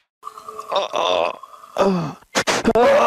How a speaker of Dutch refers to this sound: Ja, je hoort hier toch wel echt duidelijk dat echt het wind uit zijn longen geslagen is. Een soort boer, hè? Als je nog een keer luistert, lijkt het wel of het een boer is. Maar het is lucht die uit je longen wordt gepest.